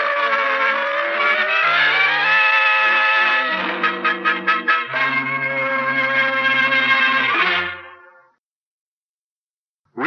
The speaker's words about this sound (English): Quick with those cars! What the... They're coming this way! Jump quick! They'll hit you!